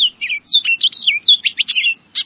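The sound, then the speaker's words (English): An orchard oriole sings a rapid, jumbled run of bright, high whistles and chattery notes, loud and continuous with only brief pauses between phrases. “Of all American presidents, just one might have halted the playing of Hail to the Chief so he could listen to an orchard oriole singing outside the White House.”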